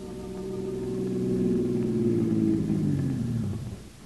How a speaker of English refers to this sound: As our story opens, Jack Arnold's car is drawing up in front of the nightclub.